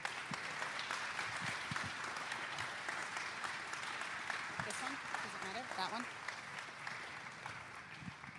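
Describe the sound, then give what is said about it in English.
An audience claps steadily for several seconds for the mothers standing to be honoured, a dense, even wash of many hands with no clear individual beats, while faint voices murmur underneath. “While they stand, why don't you give the mamas a big clap?”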